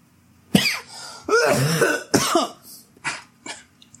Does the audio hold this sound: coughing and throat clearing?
yes